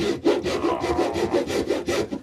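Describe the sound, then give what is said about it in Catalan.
A hand saw cuts through wood in quick, steady back-and-forth strokes, about eight rasping pulls in an even rhythm, fairly loud with no voices. “Ara el segon pas, amb la serra.”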